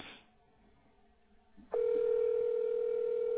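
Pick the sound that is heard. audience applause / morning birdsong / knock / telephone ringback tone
telephone ringback tone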